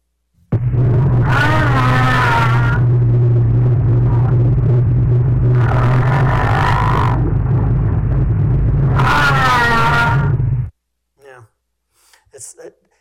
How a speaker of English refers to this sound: Okay, let's go on next here. Gray whales.